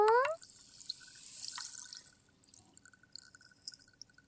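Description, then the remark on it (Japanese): An ice cube plops into carbonated water with a short, rising bloop, followed by a bright hissing fizz that fades into scattered, faint crackling pops of bubbles. “炭酸水の中に氷を入れていきますよ。”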